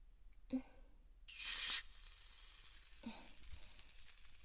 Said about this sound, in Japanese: そしたら、こちらも炭酸ミストでマッサージしていきますね。